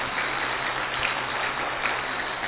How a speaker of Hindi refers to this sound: और साथ साथ में और एक बार ताली आगरा रत्न अवार्ड से भी उन्हें सम्मानित किया है.